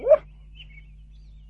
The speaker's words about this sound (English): This is Digger the dog.